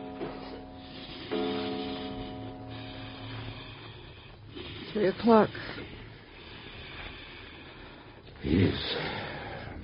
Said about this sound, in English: Listen to the way he's breathing. It's getting worse. It's getting worse, isn't he, Doctor? Listen to it.